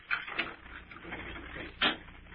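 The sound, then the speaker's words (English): A door at the top of a flight of stairs is unlocked: a few sharp metallic clicks and a soft jangling rattle in between, ending with one louder clack as the lock turns. No one speaks. “I gotta unlock the door.”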